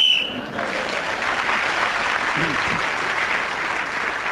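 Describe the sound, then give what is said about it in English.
A short, shrill whistle blast sounds at the very start, blown to end a speaker's turn in a game, then gives way at once to loud, sustained applause from an audience that carries on steadily to the end. “Clement Freud was then speaking as the whistle went, gained that extra point”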